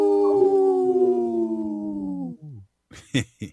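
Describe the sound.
A person imitates a wolf with one long, loud howl that holds steady and slowly sinks in pitch, then breaks off into a few short, sharp vocal yelps.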